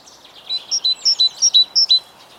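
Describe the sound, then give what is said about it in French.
Birds chirp outdoors in spring, heard everywhere through open windows, in a quick, regular series of about nine bright, high notes, clear over a faint background hush. No voices are heard. “Le chant des oiseaux. Partout.”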